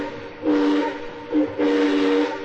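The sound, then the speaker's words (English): A model railroad train whistle, on tracks laid all around a room, sounds two breathy, steamy blasts, a short one followed by a longer drawn-out toot, fairly loud over a steady hissing background. “It's his railroad. We have tracks all around the room.”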